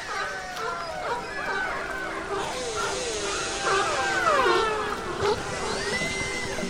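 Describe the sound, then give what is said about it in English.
Dense chorus of orca and sea lion calls: overlapping rising and falling whistles, squeals and bark-like cries, continuous and fairly loud over a steady watery hiss. “From orcas and sea lions,”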